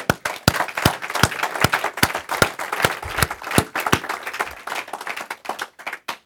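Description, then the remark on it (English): An audience claps hands for the Lord during a morning service for about six seconds, a dense wash of applause with sharp, loud claps standing out in a fairly steady rhythm. No one speaks over it. “Shall we give the Lord a hand this morning?”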